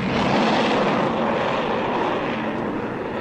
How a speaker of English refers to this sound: And what's that? Sounds like a plane of some kind. Hey, Doc! Doc, look! It's one of our fighters! It's number one!